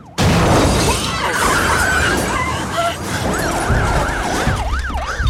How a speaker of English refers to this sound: A truck hits the Astra side on.